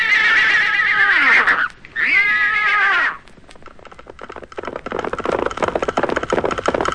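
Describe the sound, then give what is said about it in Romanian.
Stallions neighing: two loud, high whinnying neighs in quick succession, each sliding downward in pitch, followed by several seconds of steady, rough clattering noise. “Am să-ți mai dau pe deasupra doi armăsari cu copitele aurite, cu coame roșii cum e zarea în zori.”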